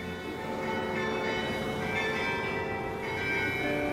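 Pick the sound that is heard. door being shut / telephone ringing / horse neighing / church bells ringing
church bells ringing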